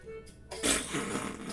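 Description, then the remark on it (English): A single wet, blurting fart noise, likely made by pressing a hand against the arm, bursts in after a brief quiet moment and rasps on for about a second, fairly loud. “Fart noise!”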